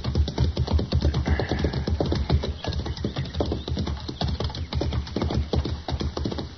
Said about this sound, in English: That's horses down there, Chester. Yes, sir. I can see the heads now. I don't see anybody driving them.